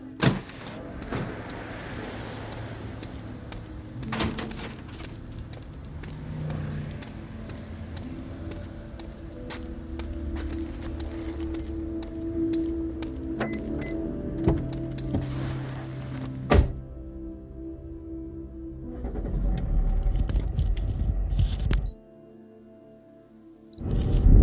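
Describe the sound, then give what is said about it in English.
A car drives steadily at about 1:30 a.m., with a low engine and road rumble heard from inside, broken by occasional clicks and thunks, then briefly drops away before picking up again. No one speaks. “I've been driving for a while, longer than I needed to, really.”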